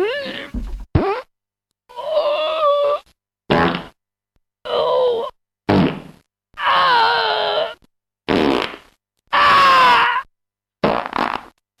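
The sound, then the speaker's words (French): Around ten loud, buzzy fart sound effects in a row, separated by short silences, each a wobbling, pitch-bending blurt of varying length, from quick pops to drawn-out raspberries, with no talking. “Moi, je me demande ce que ça fait le bruit du vent que vend Sarkozy.”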